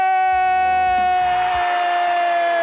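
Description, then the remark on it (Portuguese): A radio presenter's excited shouting and whooping from a voice or two, lasting a couple of seconds over a loud, steady, sustained musical tone that carries on after the yelling fades. “posso gritar aqui?”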